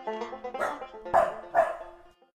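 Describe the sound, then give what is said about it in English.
Dogs bark three times in quick succession, fairly loud, over a steady humming tonal background that fades out at the end. “When they reached the edge of the swamp, the boy jumped down and rejoined his faithful dogs who had followed behind.”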